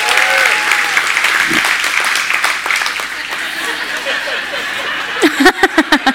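An audience claps steadily in a dense, crackling wash of applause, with a few whoops and cheers rising over it and some brief laughter as it tapers off.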